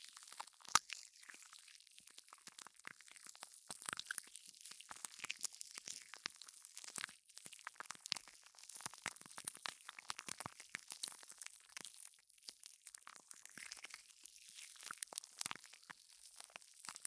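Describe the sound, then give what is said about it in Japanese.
Soft, wet squishing and crackling of gel being pressed, gel that has weakened and no longer makes a fizzy, carbonated sound; a continuous dense stream of tiny moist clicks and crunches with no voices, steady and fairly quiet throughout. “こうなるとただのジェルって感じです。”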